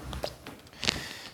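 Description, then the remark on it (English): A single short sneeze, a sharp hissing burst that stands out briefly against quiet background noise, with no talking. “Bless you. Has the hay fever got you?”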